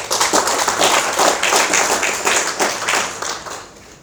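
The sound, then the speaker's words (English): An audience claps steadily for about four seconds, a dense crackle of many hands at even loudness that tapers off slightly toward the end, with no voices over it. “You can clap for her.”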